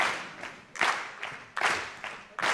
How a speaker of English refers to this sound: Oh, they're going to clap.